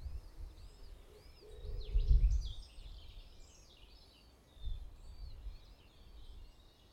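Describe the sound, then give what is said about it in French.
In the morning, several birds chirp and warble outdoors over a low, steady rumble of wind, their quick calls overlapping throughout, with a brief deeper thud partway through. “Et voilà, ce matin, j'ai décidé de vous accueillir avec le chant des oiseaux.”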